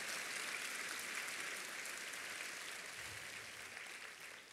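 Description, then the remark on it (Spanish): A church audience claps steadily together, a dense, continuous wash of applause at moderate loudness, slowly tapering slightly toward the end with no voices over it. “Vamos a dar un aplauso.”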